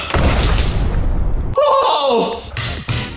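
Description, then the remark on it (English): A nail-studded baseball bat smashes into ice with loud, crunching, shattering impacts, followed by an excited shout and one more sharp cracking blow. “But today, we're gonna break some ice.”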